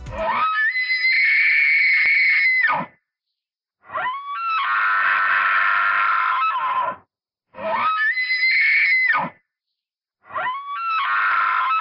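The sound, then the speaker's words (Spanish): A moose's rutting call: four long, nasal, screeching cries, each lasting a few seconds with a brief rise and fall in pitch, loud and separated by short silences. No one speaks. “Y otra cosa es que en época de celo hacen un sonido nasal chirriante que he buscado en internet para compartirlo con todos vosotros, así que allá va.”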